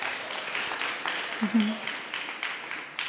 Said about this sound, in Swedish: Det här har varit, ja, faktiskt en applåd för dem.